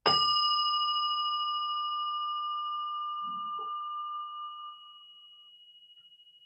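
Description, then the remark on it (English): A bell is struck once, sending out a clear, bright ring that hangs in the air and slowly fades over several seconds, with no talking. “I guess I'll ring a bell because I have one.”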